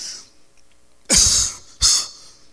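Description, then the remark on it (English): A voice imitates the cough of the sick Lazarus: two loud, harsh coughs, the second following about a second after the first, with quiet before and between them. “But Lazarus is in the room sick. He's coughing.”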